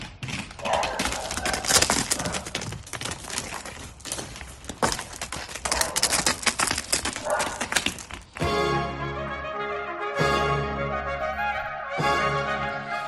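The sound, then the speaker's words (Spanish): Rapid, irregular thudding of the hooves of Chulo, a 131-kilo pet calf in Rincón de Soto, as it runs up, loud and clattering for about eight seconds, then giving way to a loud, low, drawn-out animal call. “Ahora sí, llega corriendo, feliz, es chulo, un ternero que pesa 131 kilos.”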